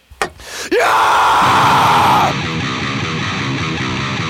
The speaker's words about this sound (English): Give me a scream